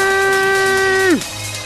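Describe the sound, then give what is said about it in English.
A loud, steady horn blast from the crowd's horns crew at a DJ set holds one bright, buzzy note for about a second, then its pitch sags sharply downward and cuts out, leaving a low background rumble. “Reaching out to the whistle, to Massive, believe, to the horns crew, how to shout a Massive.”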